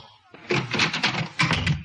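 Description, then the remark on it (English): A door bangs shut in a house at 3 o'clock in the morning, followed by a rattling clatter of several quick knocks and thumps as it settles, loud with no voices. “I heard something. It sounded like a door slam.”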